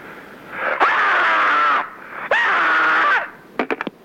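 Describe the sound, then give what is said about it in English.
A person lets out two loud, strained screams, each lasting about a second with a short pause between, followed by a quick burst of short, sharp cries. No talking. “Meanwhile, to add to your screamscape”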